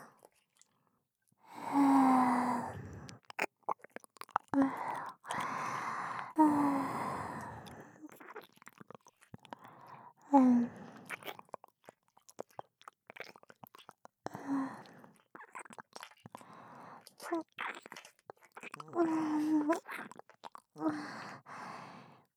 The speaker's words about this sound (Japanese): 首が硬くなって、ここの触手は吸盤張り付かせて、プチュプチュ吸い付くように動かしてやろう。